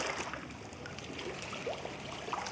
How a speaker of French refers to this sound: Les eaux de l'île qui coulent en contrebas, rejointes par celles de la Bruche avant de franchir les 13 arcades du barrage Vauban, ont parcouru environ 190 km depuis leur source, dans le Jura alsacien, pour parvenir jusqu'à nous.